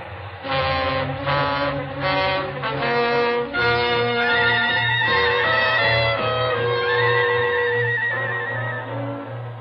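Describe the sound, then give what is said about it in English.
A long, loud train thunders past, its horn blaring in sustained, shifting tones over a constant low rumble, with no voices. “Nobody's going to hear anything except this train.”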